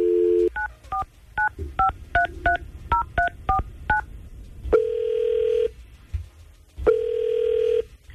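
A radio station calls a listener: a rapid run of about a dozen touch-tone telephone dialing beeps, followed by two long, steady phone tones separated by a short pause. No one speaks.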